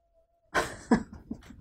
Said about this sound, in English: is that our dog? It is our dog. What's wrong with her?